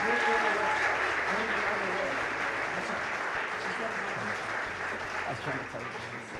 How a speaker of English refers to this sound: Let's clap one more time. That is amazing.